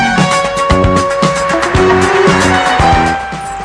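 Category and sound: vehicle, car driving past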